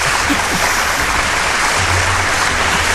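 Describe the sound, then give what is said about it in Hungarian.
Steady audience applause as the members of a band are introduced on stage, a dense, even wash of many hands clapping at a constant loudness with no voices standing out. “Hol van? Taps!”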